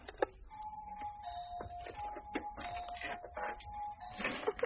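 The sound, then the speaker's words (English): A doorbell on the Via della Conciliazione rings with a steady, sustained tone for several seconds, broken by clicks and rattling bursts, with no one talking. “Ah, that looks like the bell.”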